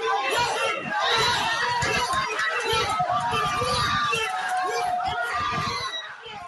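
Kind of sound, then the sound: crowd, cheering crowd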